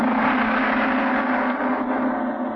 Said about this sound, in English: The reception hall of the Bahrainian embassy is large, opulent, and beautifully furnished in a Middle Eastern style. A gong crashed out.